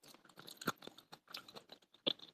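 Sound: crunchy food being chewed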